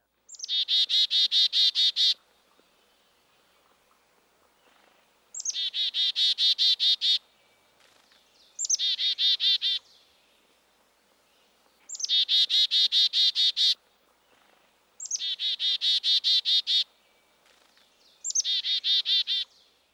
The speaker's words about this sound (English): Now let's listen to two chickadees, the black-capped and the Carolina. These two birds derive their names from their calls. Chickadee-dee-dee-dee-dee. First, listen to the more northerly black-capped chickadee.